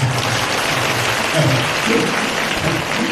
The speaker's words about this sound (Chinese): 其实呢这些方法你们鼓掌啊，不是，我说你们鼓掌啊，鼓得太早了。